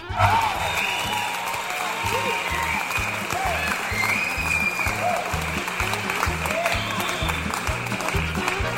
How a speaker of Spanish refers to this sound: Ahora tengo también gente que aplaude y ríe.